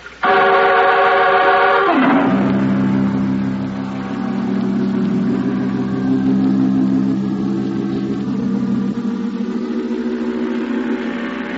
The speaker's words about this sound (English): can't you crank a little more speed out of this outboard?